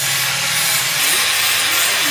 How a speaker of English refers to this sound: The deafening sound of cutting and grinding machines, punctuated by the tapping of hammers and chisels, echoes around the hills next to Sagyin Village, north of Mandalay, Myanmar.